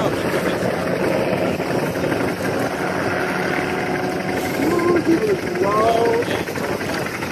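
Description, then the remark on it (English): A low-flying airplane roars over the Gulf of Mexico, filmed from a boat, its engine a loud, steady drone that fills the whole clip, with faint voices briefly rising beneath it near the end. “Here is a little bit of video of his plane.”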